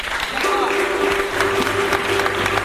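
A crowd breaks into sustained applause for a man, dense clapping filling the whole stretch at a steady loud level, with a held musical tone and low hum running underneath.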